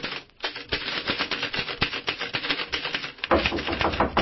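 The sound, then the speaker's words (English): Rapid, steady clacking of typewriter keys, a dense run of sharp mechanical strikes with a brief pause near the start and a slightly louder burst toward the end. Tom working away at his typewriter at about 1 o'clock in the afternoon. “Well, right now it's about 1 o'clock that same afternoon, and Tom is working away at his typewriter when the knock comes on the door.”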